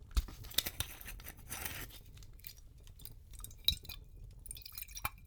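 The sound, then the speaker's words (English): A glass potion bottle is unstoppered with a soft scraping rustle and light clicks, followed by quiet sipping sounds, three or four sips of the potion, and a faint glassy tap, all fairly hushed and with no talking. “Just open it.”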